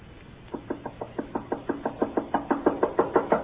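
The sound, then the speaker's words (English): Rapid, insistent knocking on a door, about a dozen sharp raps in a steady rhythm that grows louder and more urgent toward the end, with no voices. “Open that door!”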